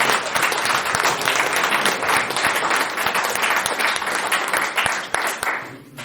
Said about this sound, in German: Vielen Dank und nochmal extra Applaus.